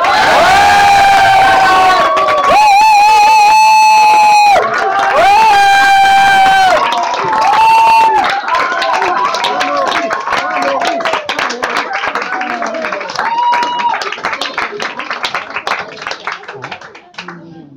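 A loud crowd cheers and whoops with high sustained shouts over dense, steady applause that continues throughout, gradually thinning toward the end.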